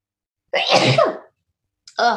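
A single loud sneeze bursts out of silence with a sharp, breathy explosion, followed by a short pause before another voiced sound begins at the very end.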